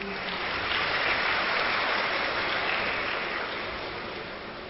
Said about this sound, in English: And they all clapped. Even Bab Dada wants that. And they're clapping again.